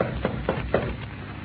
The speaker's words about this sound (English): I reckon it won't hurt nothing to tap on the door, sort of, you know, will it?